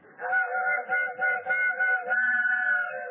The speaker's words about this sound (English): Gee, they changed the whistle on the train just for me.